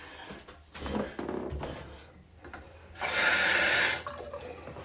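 water running

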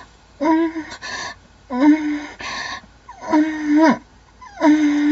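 gasping

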